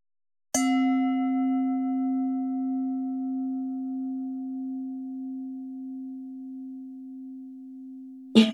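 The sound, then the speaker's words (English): A meditation bell is struck once, and its deep, pure tone hums with shimmering overtones, fading slowly for several seconds before a second strike sounds right at the end. “As I ring the bell, just gently bringing your awareness back into the room.”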